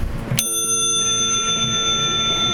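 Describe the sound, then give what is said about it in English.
A single sharp flick of the crane bell on a black bicycle rings out, its bright metallic tone shimmering and slowly fading over a low background hum. “Right, if you want to flick that bell.”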